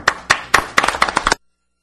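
Brief audience applause: a few distinct, evenly spaced claps quickly thicken into a denser burst of clapping from a small group, then cut off abruptly into silence after about a second.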